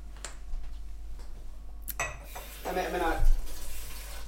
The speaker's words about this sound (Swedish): Jag kan fylla på ditt glas.